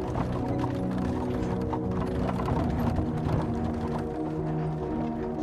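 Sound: horse-drawn carriage hooves clip-clopping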